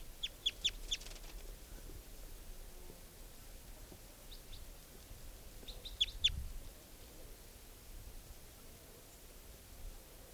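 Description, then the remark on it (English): A wild type 2 juvenile bird gives short, high-pitched chirping calls in two bursts, a rapid cluster at the start and a few more notes midway, over a faint steady hiss with no talking. “That wild type 2 bird just got caught.”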